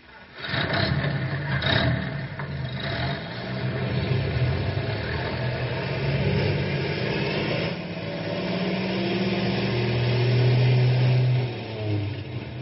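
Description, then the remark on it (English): A rescue truck engine turns over and catches, then revs steadily and loudly as the truck pulls away out of a garage, its low rumble rising in pitch near the end. “Grey Wolf, Stumpy, you fellas drive the other rescue truck.”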